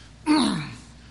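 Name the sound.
sneeze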